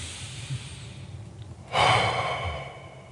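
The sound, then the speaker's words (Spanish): A quiet breath in followed by a long, audible exhalation with a soft hiss that tapers off slowly, heard on its own with no talking, as a breathing exercise to calm the body. “La exhalación ayuda el cuerpo, ayuda los músculos a calmarse y descansar.”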